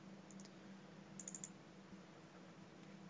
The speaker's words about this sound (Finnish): Vähän jää pimentoa, mitä tapahtuu ja rekisteröikö se edes tätä tuplaklikkaa.